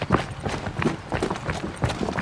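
Steady footfalls of people jogging a route to time how long it takes, a quick even rhythm of soft thuds on the ground, moderately loud, with no talking.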